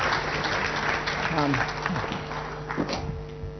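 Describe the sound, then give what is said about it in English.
A crowd at a service applauds steadily, a dense wash of many hands clapping at once at an even loudness, with a few murmuring voices and a low hum underneath. “Can you clap, everyone?”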